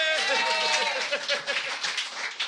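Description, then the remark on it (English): An audience's short burst of applause for a just-finished round of the show: steady dense clapping with voices cheering and whooping over it, sustained at an even level for a couple of seconds. “Let's have a round of applause for that round.”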